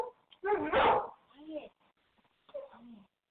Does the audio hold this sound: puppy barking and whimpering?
yes